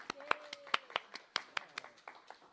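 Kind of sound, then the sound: crowd, audience applause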